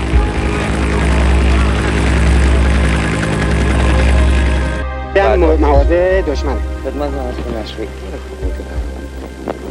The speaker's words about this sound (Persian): در ابتدا آیت الله خامنه‌ای با بالگرد به ارتفاعات مرزی کرمانشاه رفت و مواضع دشمن را در غرب کشور از نزدیک بررسی کرد.